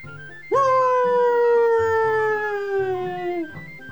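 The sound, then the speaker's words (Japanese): A dog named Musashi lets out one loud, drawn-out, proud bark that stretches into a howl in front of the Noguchi family grave stone, slowly falling in pitch for about three seconds, with no talking. “武蔵が誇らしげに一つ大きく吠えた場所は、野口家の墓と掘られた石の前だった。”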